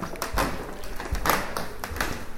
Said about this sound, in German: Es ist ein heller Holzboden, Sie hören, es knarrt, es ist auch sonst relativ dunkel in dem Museum. Es ist halt ein alt, ehrwürdiges Schloss.